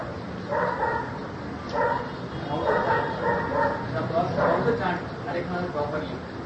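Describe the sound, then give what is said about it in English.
A dog barks repeatedly in a steady series of short, sharp barks, moderately loud over a constant hissy background. “The dog was barking.”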